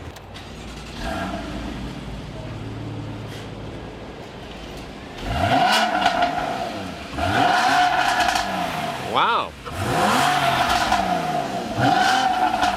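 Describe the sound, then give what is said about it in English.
The engine of a mid-engine sports car idles, then revs hard several times in quick succession, each throaty roar climbing and falling back, loud, with a brief exclamation from someone. “You want to fire it up? We'll give it a little listen.”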